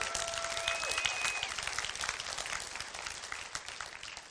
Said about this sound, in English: Come on, you ought to clap better than that.